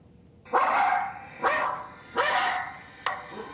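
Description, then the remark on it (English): Two dogs bark excitedly, four loud, sharp barks in a quick uneven rhythm, one sounding higher-pitched, with no talking over them. “So I don't know if you could tell, but they were both barking, and one has a high.”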